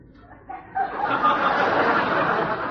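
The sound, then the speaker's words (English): A human voice imitates a duck with a loud, raspy run of quacks that starts after a brief pause and keeps going without a break, unaccompanied. “Duke, not duck.”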